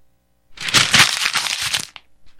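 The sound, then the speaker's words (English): A letter is crumpled into a ball and thrown away, making about a second and a half of loud, dense crackling and crinkling, ending with a brief soft rustle. No one speaks. “That just went in the rectangular file.”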